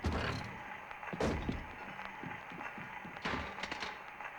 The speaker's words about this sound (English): He pulls open the door.